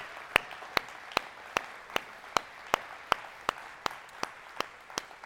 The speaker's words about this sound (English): So I want us as a church just to acknowledge and thank and give a huge round of applause to everybody who's got a part in making things happen around here. Amen?